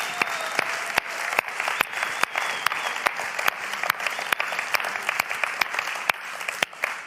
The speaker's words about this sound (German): Wer hat heute alles hier brunchet? Wollen wir doch mal einen großen Applaus in unserem Brunch-Team geben?